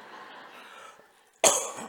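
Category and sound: human body sound, cough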